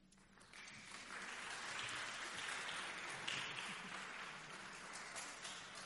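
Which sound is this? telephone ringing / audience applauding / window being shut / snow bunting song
audience applauding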